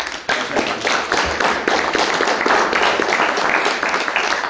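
An audience breaks into sustained applause, a dense, steady wash of many hands clapping at an even loudness for several seconds with no one speaking over it.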